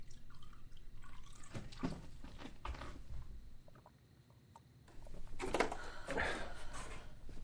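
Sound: water being poured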